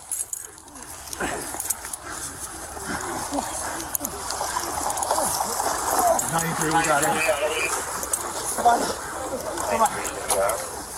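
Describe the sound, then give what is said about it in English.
Steady, choppy splashing of water outdoors as police officers in Aurora, Illinois, send rope lines into a retention pond and dive in to rescue a 9-year-old boy who fell through the ice, with agitated voices shouting over it throughout the commotion. “Video posted to social media showed officers sending rope lines out into the pond while other officers dove in to make the rescue.”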